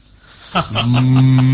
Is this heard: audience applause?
no